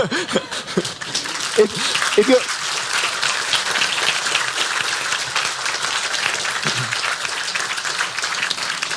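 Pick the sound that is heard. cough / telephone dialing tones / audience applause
audience applause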